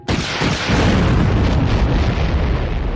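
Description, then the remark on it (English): A loud explosion bursts in suddenly as an armor-piercing cannon shell detonates inside the cannon's barrel, rolling on as a sustained, rumbling roar full of deep low-end energy, with no voices present. “The explosion was satisfying.”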